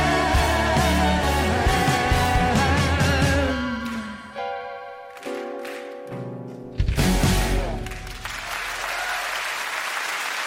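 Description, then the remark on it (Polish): Live music with sustained string chords winds down to a final held note, then a crowd breaks into steady, enthusiastic applause that carries on loudly to the end. “Wielkie brawa.”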